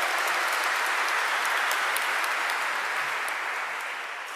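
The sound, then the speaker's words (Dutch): An audience applauds steadily for Father Damian (Pater Damian), a dense wash of many hands clapping at once, sustained throughout and tapering slightly toward the end. “Een aureool en een applaus voor Pater Damian.”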